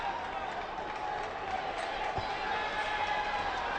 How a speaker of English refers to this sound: Now you can see some of the energy picked up. You might hear some of the crowd noise going on.